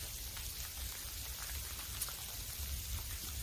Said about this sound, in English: And as you can see, the rain's getting heavier.